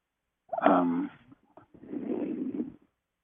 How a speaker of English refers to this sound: And you're breathing into the mic